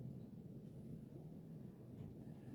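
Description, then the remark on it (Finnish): A deep, continuous rumble of rolling thunder fills the whole moment, steady and heavy in the low end, like a storm grumbling, without any sharp crack or voices. “Mustan pilvet ennustavat aina ukkosmyrskyä ja huonoa säätä.”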